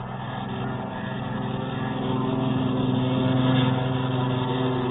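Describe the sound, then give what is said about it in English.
A steady, droning propeller engine roars continuously and grows gradually louder as a colonel's flight of planes takes off on a mission, with no voices present. “The Colonel's flight took off first.”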